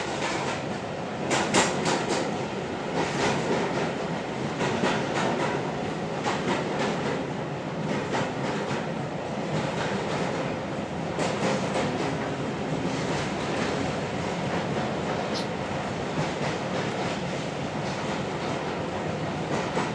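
A train running through a tunnel rumbles along in a loud, enclosed-sounding roar, with the wheels clattering rhythmically over the rails throughout. The dense, steady din never lets up, and nobody speaks.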